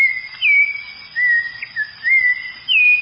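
A clear, high whistle like a wolf whistle, repeated in several short sliding phrases that rise and dip in pitch, loud, with no one talking.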